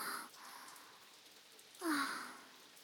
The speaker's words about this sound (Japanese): なんで急に雨降ってくるの？